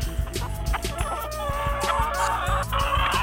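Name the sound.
pigeon cooing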